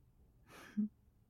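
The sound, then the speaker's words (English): A single soft snore: a quiet, breathy inhale ending in a brief low rumble, with no voices around it. “Such adorable little snores.”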